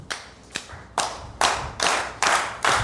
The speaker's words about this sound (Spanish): Más antes de empezar este 420, papi, yo creo que todo el mundo aplauda así.